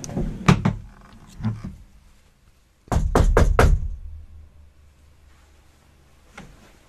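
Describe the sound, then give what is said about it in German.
Two sets of knocks on a door: a few scattered raps early, then a loud burst of four quick knocks in a row, followed by a single faint tap near the end. “Soll ich mal klopfen? Klopf mal und guck, ob es zurückklopft.”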